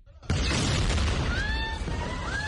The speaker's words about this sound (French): Un hélicoptère au-dessus, une explosion dans la cour de l'hôpital des martyrs d'Al-Aqsa, dans le centre de la bande de Gaza.